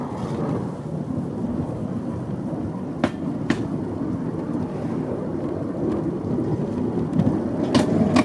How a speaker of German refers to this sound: Wir hören jetzt ja auch diese Stöße, die Gleisstöße. Nicht? Wie das Gleis liegt, hier hängt das ein klein wenig zur rechten Seite runter. Und das ist alles in der Toleranz drin.